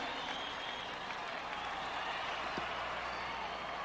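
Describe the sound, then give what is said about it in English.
A concert crowd applauds in a steady, dense wash of clapping mixed with cheers, loud and unbroken for the whole stretch, with no single voice standing out. “You guys are a great crowd today, man.”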